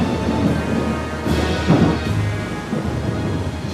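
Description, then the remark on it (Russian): A storm at sea near 12 degrees north latitude in full force: a steady, dense hiss of heavy rain with deep thunder rumbling low underneath, swelling briefly midway. No voices are heard. “Когда мы достигли 12 градусов северной широты, нас захватил второй шторм.”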